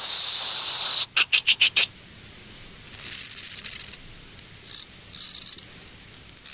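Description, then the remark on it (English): A conehead bush-cricket's high, soft hissing song in the wild: a steady buzz breaks into a quick run of five short pulses, its gear change, then returns as separate longer hissing bursts. No one speaks. “In the wild, a soft, gentle hissing noise, and then the gear change, something like...”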